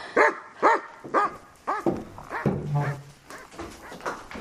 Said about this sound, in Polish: to owczarek belgijski. 6 lat w tym roku skończyła, jest z nami od samego początku.